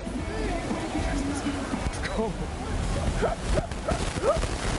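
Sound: dog barking and whimpering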